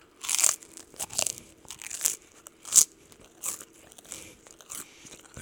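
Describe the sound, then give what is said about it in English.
Loud, crisp crunching of fried pork chips, with repeated sharp bites and chewing in an irregular rhythm, about eight bursts over several seconds, heard alone without talking. “It kind of tastes like those like fried like pork chips.”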